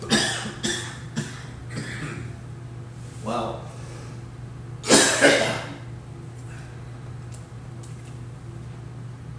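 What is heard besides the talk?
coughing fit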